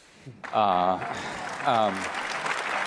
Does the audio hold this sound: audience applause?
yes